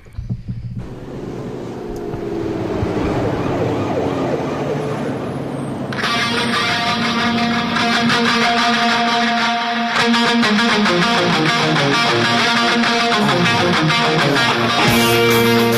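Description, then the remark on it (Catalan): A hard rock song by a Californian hard rock band opens with a swirling, echoing guitar, then a loud, dense wall of distorted electric guitar and drums bursts in and keeps driving steadily, with no one talking. “Doncs sí, primer de tot anem a un dels grans èxits de la banda californiana de hard rock.”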